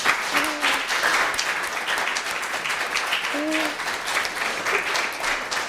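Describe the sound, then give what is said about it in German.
A crowd at an Advent celebration applauds steadily for several seconds for someone who dared to tell their story, a dense, even patter of many hands clapping at constant loudness, with a couple of brief whoops or calls rising over it. “Ich glaube, du kriegst mal einen Applaus, dass du dich getraut hast.”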